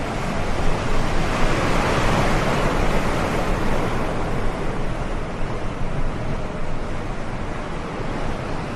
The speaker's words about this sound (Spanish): En la inmensa oscuridad, una patera desafía las olas de 3 y 4 metros. Más de un centenar de inmigrantes se agrupan en una embarcación que está a merced de este temporal.